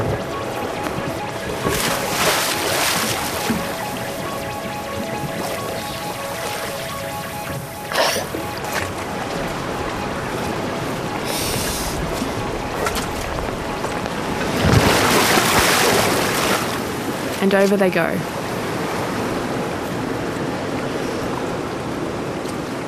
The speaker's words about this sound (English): Except for the sound of the water slapping against the boat and a few noises from the seals and birds on the rock, it's quiet on the surface.